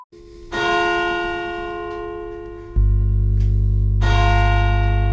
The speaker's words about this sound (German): Tun Sie das Ding wieder vor auf das Kissen. Tun Sie die Glocken wieder auf das Kissen legen.